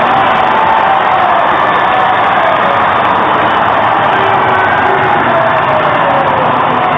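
A huge crowd of tens of thousands of fans cheering and roaring continuously on a Zagreb square as the plane carrying Croatia's footballers, world vice-champions, flies over before landing; a dense wall of shouting voices with scattered whoops rising above the sustained din.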